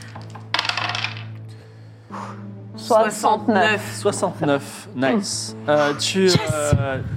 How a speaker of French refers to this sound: Bravo pour les gens qui font des bons jets de dés.